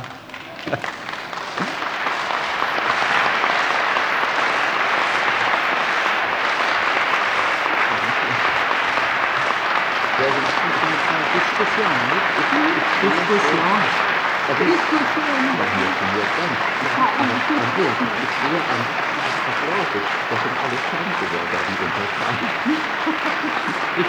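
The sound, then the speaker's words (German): A large congress audience breaks into sustained applause, a dense wash of clapping that swells within a few seconds and holds steady, with some faint voices mixed in beneath it. “Ich sehe aber an Ihrem Applaus, gehorsame Untertanen sind Sie bestimmt nicht.”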